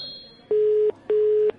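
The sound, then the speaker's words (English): A telephone ringback tone purrs twice on the line, two steady electronic buzzes in quick succession with a short gap between them, clear and fairly loud with no talking. “It's ringing.”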